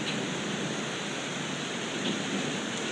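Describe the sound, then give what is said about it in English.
Very hard rain pours down with some wind, a dense, steady roaring hiss that stays loud and unbroken throughout, with no voices. “This is an incredibly hard rain. There's also some wind, so I'm kind of glad that we're not carrying stuff in this.”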